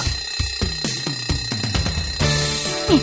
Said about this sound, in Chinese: 按下床边铃声大作的闹钟